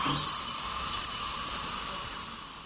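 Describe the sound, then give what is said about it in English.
A dentist's drill whines at a high, steady pitch, rising quickly as it spins up and then holding a piercing tone, fairly loud, with no voices. “Why would we find the sound of a drill that we normally think of as going into our teeth and creating agony?”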